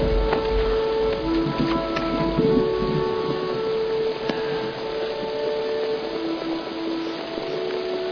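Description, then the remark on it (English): Steady, dense rain hisses throughout, with a deep rumble of thunder near the start and occasional sharp drops or clicks. Faint sustained tones hover in the background; no one speaks. “This rain's giving us the edge.”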